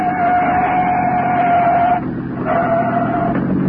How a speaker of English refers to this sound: It's a police car.